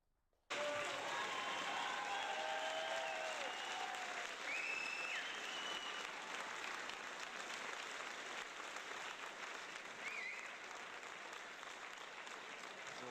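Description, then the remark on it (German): Sustained audience applause at the close of the Datenspuren event begins abruptly after a brief silence and continues steadily for over twelve seconds, a dense wash of clapping with a few whistles or cheers rising above it early on. “Ich habe da noch, genau, nach dem Applaus hätte ich noch die Bitte”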